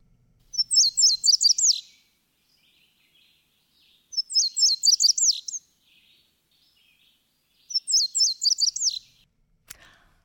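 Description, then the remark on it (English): Three bright, high-pitched warbling bird songs, each about a second and a half of quick paired chirps, repeated at steady intervals against quiet background, clear; an indigo bunting singing while passing through Ohio. “It was the indigo bunting.”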